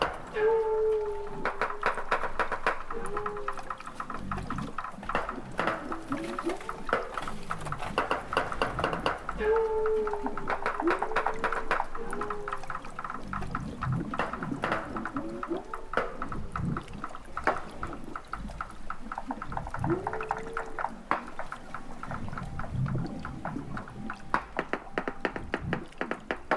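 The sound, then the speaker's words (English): A group of walruses, recorded by researcher Les Gilbert off the coast of Alaska, vocalizing underwater: a busy, continuous mix of sharp knocks and taps with repeated bell-like, bending tonal calls, fairly loud throughout, with no talking. “Researcher Les Gilbert recorded this group of walruses off the coast of Alaska.”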